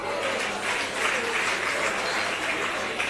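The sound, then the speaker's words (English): A crowd applauds steadily for about three seconds, a dense, even wash of many hands clapping at once with no voices over it. “Now, I know you are clapping, that's very good.”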